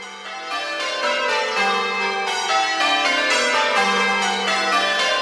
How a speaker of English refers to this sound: The bells are what change ringers refer to as rounds. They start with the smallest bell and go down, so it goes da da da da da da da da da da da da da da.